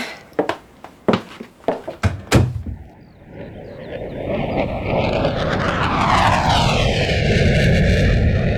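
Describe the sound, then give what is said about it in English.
A handful of sharp clicks and knocks, then a Whittle jet engine spools up, its high whine climbing in pitch over a steadily swelling roar, with no voices. “Whittle came up with a damn fine engine there.”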